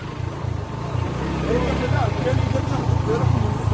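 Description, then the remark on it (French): Motorcycle engines rumble as the motorcycles arrive, in a steady, throbbing idle, loud and continuous, with indistinct voices mixed into the noise. “Voilà, les motos sont arrivées.”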